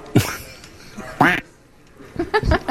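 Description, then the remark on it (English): A duck quacks loudly several times in separated bursts, a harsh nasal honk near the start, another around the middle, then a quicker cluster of quacks at the end. “Quack, you quack, fool, quack.”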